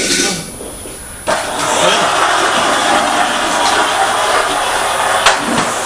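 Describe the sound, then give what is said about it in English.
A toy truck rolls steadily across a wooden floor, giving a loud, continuous rumbling clatter that kicks in after a short quieter moment and carries on. “It makes a lot of noise on this wooden floor, doesn't it?”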